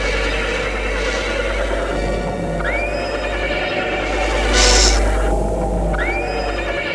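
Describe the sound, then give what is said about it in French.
A horse whinnies twice, a few seconds apart, with a short breathy snort between the calls, over a steady low hum of stable ambience. No one speaks. “Elle va voir Luc qui s'occupe des chevaux à l'écurie.”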